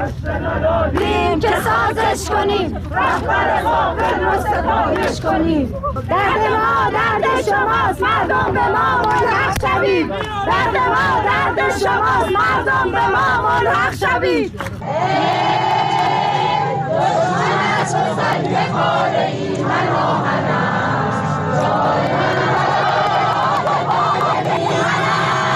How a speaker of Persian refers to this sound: بنابر تصاویر منتشر شده در شبکه‌های اجتماعی و سایت‌های خبری، شرکت کنندگان در مراسم 40 پویا بختیاری در مقابل مأموران شعارهایی دادند. کشته ندادیم که سازش کنیم، رهبر قاتل رو ستایش کنیم.